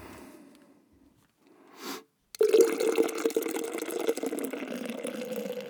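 Beer is poured steadily into a Dunedin Brewery Oktoberfest stein made in Austria, a loud gurgling stream that begins abruptly after a brief rustle and pause and keeps splashing until the end, with no voices.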